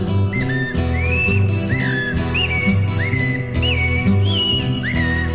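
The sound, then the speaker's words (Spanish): Bright, rising whistled phrases like a thrush's song repeat about every second over steady accompanying music, likely a human or instrument imitating the bird rather than a real one. “Canta el zorzal.”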